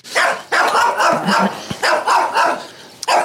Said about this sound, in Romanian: Valera și Stefano, doi pichinești, sunt pe lanț.